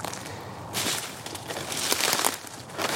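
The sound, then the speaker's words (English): Footsteps crunch through dry woodland debris in an uneven, steady rhythm, each step a crisp, crackly burst over a faint hiss, with no voices. “Oh, check out those crunchy woods.”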